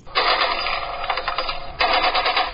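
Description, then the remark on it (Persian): Rapid bursts of celebratory automatic gunfire at a wedding celebration at night in the city of Sheberghan crackle loudly, with a brief lull midway before another sustained volley; no one speaks. “شماری از باشندگان شهر شبرقان میگویند فیرهای شادیانه در محافل عروسی آنها را به ستو آورده است.”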